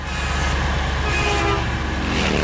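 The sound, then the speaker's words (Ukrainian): A small bus rumbles steadily as it speeds downhill along the ancient Jerusalem–Jericho road, its engine droning loud, while a brief horn toot rises over the continuous road noise. No one speaks. “Наш автобусик стрімко спускається древньою дорогою Єрусалим-Єрихон.”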